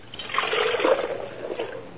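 Water pours in a steady trickle for about two seconds, swelling slightly in the middle before tapering off, with no voices over it.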